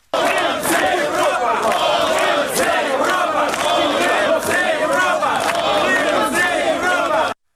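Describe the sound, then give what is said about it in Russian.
A large crowd of Euromaidan protesters in Kyiv shouts "Molodtsy" ("Well done") together in approval at Crimeans arriving with placards, a dense, loud wall of overlapping voices that rises in repeated rhythmic bursts and holds steady throughout before cutting off abruptly. “Я бы сейчас хотела, чтобы мы послушали, собственно, как крымчане, да, с Евромайданом из Крыма приезжали в Киев с плакатами «Евромайдан Крым», «Крым проти Януковича», а майдановцы им в ответ кричали «Молодцы».”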